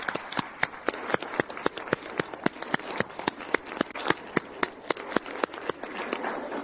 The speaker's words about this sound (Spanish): Un aplauso para todas y ellos.